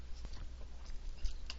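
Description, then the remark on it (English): A quiet sip of water: a few soft slurping and wet mouth clicks, then a faint swallow, with no talking. “Just a second, need a sip here.”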